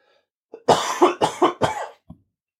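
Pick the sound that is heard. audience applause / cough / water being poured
cough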